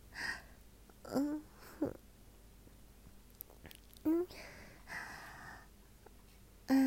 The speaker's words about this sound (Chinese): 喘气声这么大？这么粗的喘气声，你不会是在打飞机吧？